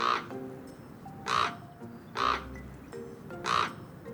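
bird, common raven calling

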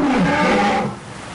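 animal, lions roaring

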